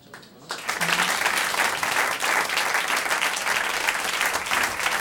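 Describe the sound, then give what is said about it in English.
An audience breaks into steady applause for the speaker after a brief quiet start, many hands clapping in a dense, sustained wash that stays loud and even for several seconds. “Y'all giving me a clap for me.”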